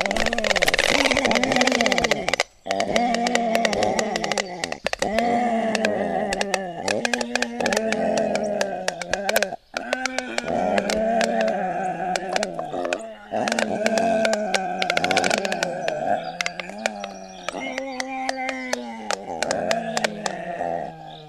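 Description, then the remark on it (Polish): Three four-week-old black stork chicks in Karula National Park, Estonia, give loud alarm calls at a hawk: a continuous stream of harsh, nasal, quacking bursts from the young birds, overlapping and rising and falling in pitch with only brief pauses. “Według opisu autorów nagrania słyszymy trzy pisklaki czterotygodniowe, które takim właśnie odgłosem reagują na jastrzębia.”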